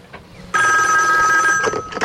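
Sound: telephone ringing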